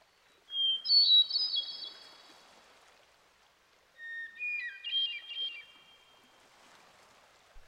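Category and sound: bird, hermit thrush song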